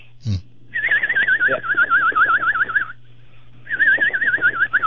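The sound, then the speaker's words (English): A screech owl gives two long, quavering whinny calls, each a wavering tremolo that slowly descends, separated by a short pause. The calls are clear, with a low steady hum beneath. “A screech owl.”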